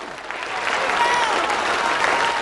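Steady, dense applause from many hands clapping together, a continuous crackling wash at a fairly even loudness, with faint voices murmuring underneath.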